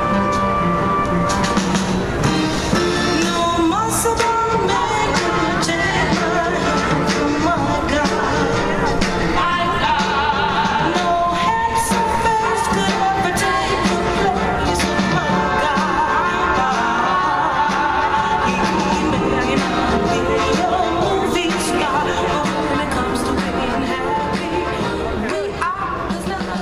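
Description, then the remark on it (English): Busy EAA air show ambience: a constant, dense din of crowd chatter and overlapping voices, layered with steady tonal droning and music-like sounds, amid planes, helicopters, trams and booths running promotions, holding an even loudness throughout without pauses. “Well, as you've probably figured out by now, EAA is a cacophony of noise. Planes, helicopters, music, people, trams, the sound of booths running various promotions, and the high-end two-story airplane and avionics manufacturers' pavilions”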